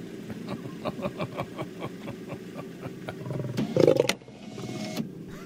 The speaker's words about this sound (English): The lion didn't really lunge. It was just more of a roar. The next step was going to be a lunge into his face.